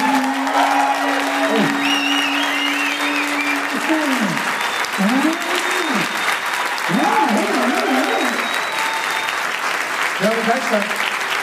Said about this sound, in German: Und jetzt euer Applaus für Franzis Baukranfrage. Euer Applaus.